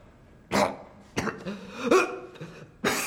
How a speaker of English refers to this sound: One cough mean you go, two cough mean you take the lead.